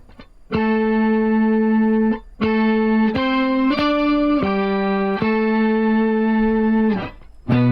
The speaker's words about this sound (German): Das ist auf jeden Fall ohne Ende verschiedene Pitch-Shifter, ne? Quinte, Septime, Oktave. So ein 12-String-Isomulation oder so.